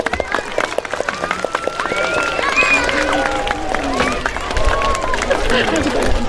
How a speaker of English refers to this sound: So I guess it's traditional to clap them on while I get off the stage. 3, 2, 1, give a clap.